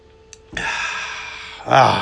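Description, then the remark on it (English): A steady hiss of handling, like a bottle of water being opened or tipped, followed by a short gulp and an audible breathy exhale after drinking. “Let me grab my water.”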